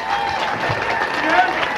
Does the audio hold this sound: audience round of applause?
yes